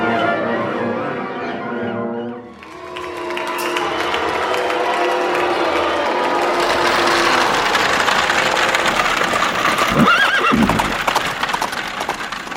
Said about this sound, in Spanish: Al final de la calle, un coche de caballos le espera para partir apuradamente hacia Windsor.